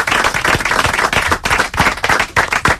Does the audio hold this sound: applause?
yes